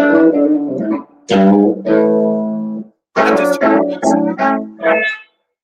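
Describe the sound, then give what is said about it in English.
An electric guitar, a Gibson Blues Hog with humbucker pickups, plays alone: a ringing chord phrase, a short break, then a run of punchy, choppy notes and chords with a bright, slightly driven tone. “It sounds like a badass telly.”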